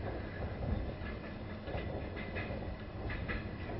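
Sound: train running on rails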